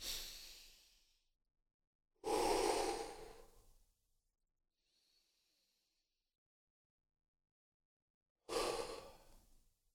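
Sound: slow deep breathing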